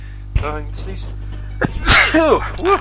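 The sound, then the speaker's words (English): A small sneeze bursts out sharply, surrounded by brief vocal sounds and breathy noises, with a steady low hum underneath. “Yes, a little sneeze there.”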